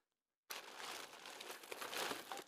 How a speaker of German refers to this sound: In manchen Ländern auf dieser Welt gibt es ein ganz spezielles Brot. Und das Brot, das muss ich mal hier aus der Tüte noch holen.